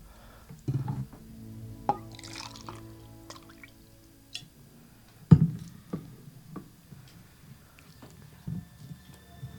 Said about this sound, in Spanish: Coge el agua y métela en este frasquito.